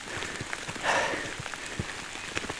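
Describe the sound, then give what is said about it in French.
Steady rain patters with scattered heavier drops tapping a surface, and a brief whooshing swell partway through before the even downpour continues, as someone speeds up through the rain. “Accélération sous la pluie.”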